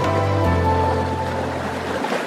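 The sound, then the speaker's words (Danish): Ocean waves breaking in a steady, fairly loud rush of surf, with a low droning hum running underneath. No one speaks. “Til lyden af bølger, der brydes, dykker vi nu ned under havoverfladen.”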